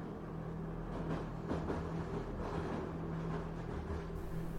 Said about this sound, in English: The train has entered another tunnel. Everything goes dark. The sound of the train rumbling through the tunnel echoes off the walls.